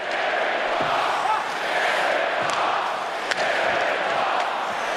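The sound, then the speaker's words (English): A football stadium crowd roars steadily and loudly for the whole stretch, a dense wash of many voices with a brief sharp crack partway through; no distinct whistle stands out. “That was actually from a game. Oh, see, there's the whistle.”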